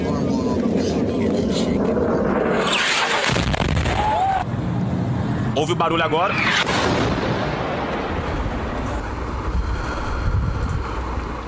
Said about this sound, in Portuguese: Olha a diferença. Isso é um teste da bomba americana.